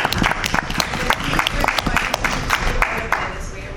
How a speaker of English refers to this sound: but welcome to the Searchlight community, and I'd like to give you a round of applause.